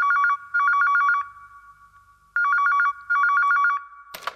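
A telephone rings at night in two paired bursts of rapid trilling electronic tones, loud, with a brief pause between pairs, ending with a short clatter as the receiver is picked up.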